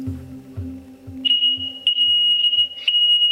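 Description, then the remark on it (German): A loud, shrill smoke alarm beeps in long, piercing tones that repeat with brief gaps, following a low hum and soft rhythmic thuds at the start. “Ich breche die Aufnahme ab und das liegt nicht am lautstarken Rauchmelder.”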